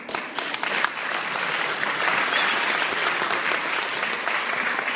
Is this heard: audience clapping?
yes